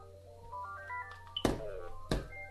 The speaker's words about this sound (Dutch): Kijk, mooi hè? Mooi ringtone. Nee, dit is gewoon een nummer, dus dat weet ik niet.